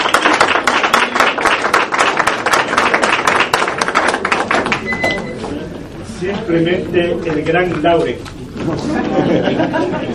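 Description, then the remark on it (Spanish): A crowd bursts into steady, loud applause to welcome a priest, a dense patter of many hands clapping for several seconds, then it thins out as a man's voice begins speaking over the fading claps. “Recibamos con un fuerte aplauso al Reverendo Padre”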